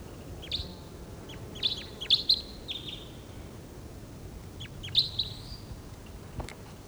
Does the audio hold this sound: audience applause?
no